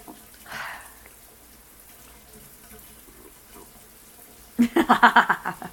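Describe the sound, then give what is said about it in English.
Running water from a shower splashes in a quick series of rhythmic bursts, beating on a person's back, rising sharply after several seconds of near quiet with only a faint background hiss. “If the water has been beating on it, but that is not enough.”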